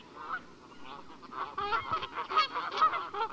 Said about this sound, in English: It's a bird. Geese. Ah, yes.